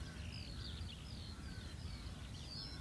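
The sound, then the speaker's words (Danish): Several birds call back and forth in the open air, crow-like caws and higher chirps scattered over a steady low rumble of wind, no voices. “Og vi har jo et lydtæppe herude i naturen af fugle og vinden.”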